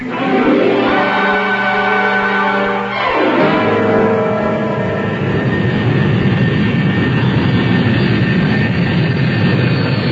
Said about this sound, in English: Well, there it goes. Bye-bye, Rodney. I had to see that plane in the sky before I'd leave.